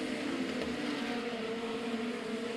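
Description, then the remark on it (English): Race car engines roar steadily, a continuous high-pitched drone that holds even throughout, as cars circle a 5/8-mile oval racetrack. No voices are heard. “The two white cars look pretty much alike on the 5/8 mile on the backside of this racetrack.”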